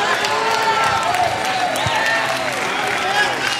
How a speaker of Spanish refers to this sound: Un aplauso, por favor, iglesia. Oh, give him a hand clap, church.